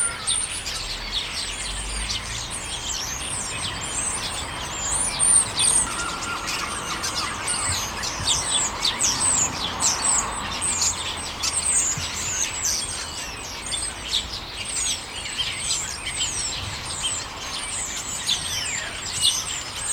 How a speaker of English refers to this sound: One of the other birds that gives me a great deal of joy just hearing them is starlings. How about we listen to this?